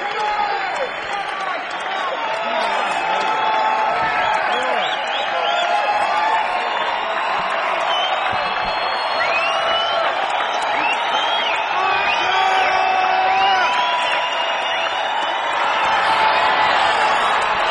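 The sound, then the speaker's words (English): A large concert crowd cheers and applauds continuously after the performers walk off stage, with whoops and shouts rising over a steady wash of clapping, loud and sustained throughout as if calling for an encore. “Looks like they're going to try to get a little more applause out of us before doing another number.”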